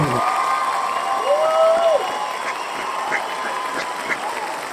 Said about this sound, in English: But before she does that, I want to just have y'all just give it up for this team, Quick Tip LLC. Come on, everybody, give them a real big round of applause.